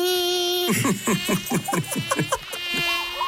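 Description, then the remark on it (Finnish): A thin, high-pitched mosquito whine drones, wavering and pulsing rapidly through the middle before settling back into a steady buzz. No voices. “Arvaa, mitä tästä kesästä puuttuu. No, hyttyset.”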